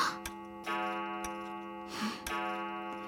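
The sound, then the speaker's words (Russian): A clock strikes the hour, its metallic chimes landing roughly once a second, each blow leaving a rich ringing tone that hangs in the air. Clear, with no voices. “Замечено было, что мой первый крик раздался, когда начали бить часы.”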